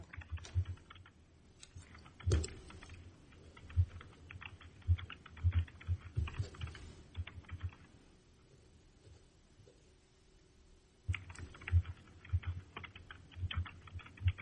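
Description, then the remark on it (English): Rapid clattering of keys on a computer keyboard, coming through a phone line during a court hearing, fairly clear, in uneven bursts with a few seconds' pause in the middle before the tapping resumes. No voices. “your typing comes through more clearly than your voice.”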